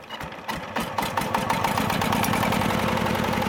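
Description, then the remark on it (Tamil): The engine of a small power tiller, operated by one person and brought from China, chugs steadily and loudly, its rapid regular putter settling into an even idle after a brief uneven start, with no voices. “சிறியதாக ஒருவர் மட்டுமே இயக்கக்கூடிய உழவு இயந்திரங்கள் சீனாவிலிருந்து கொண்டு வரப்படுகின்றன.”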